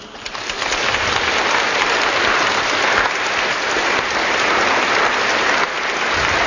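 Sustained applause from an audience welcoming a guest author and a group of children she brought with her, a dense steady patter of many hands clapping together at full volume for several seconds, with no talking over it.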